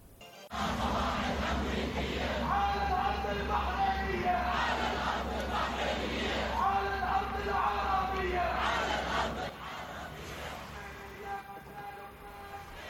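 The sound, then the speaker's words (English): A large crowd of protesters in Bahrain chants loudly in unison, condemning the strikes on Gaza and Yemen, many voices rising and falling in a steady rhythmic pattern over a low rumble, easing slightly in volume toward the end. “Bahrain also saw similar protests, with participants condemning the strikes on Gaza and Yemen.”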